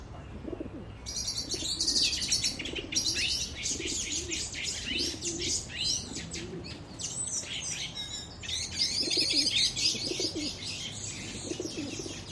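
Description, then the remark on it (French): Pigeons coo in low, repeated throaty bursts, while a busy chorus of smaller birds chirps and twitters continuously above them; a faint flutter of wings may pass. “C'est les danses quotidiennes avec les pigeons, quoi, le sabre.”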